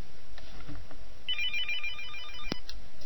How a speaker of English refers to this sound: And for the time being, well, looks like we have our first phone call here.